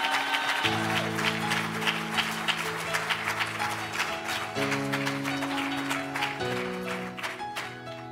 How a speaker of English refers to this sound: Give God a hand clap of praise on him.